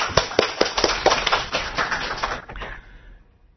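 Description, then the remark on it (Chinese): A church audience at its 2011 summer camp applauds with dense, steady clapping and a few sharper claps standing out, then the applause thins and fades away over the last second. “我哋俾下掌声，我哋自己亦都归荣耀俾神。”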